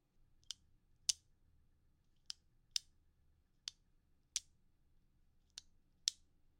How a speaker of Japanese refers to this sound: お、正解。この音はボールペンのカチカチ音でした。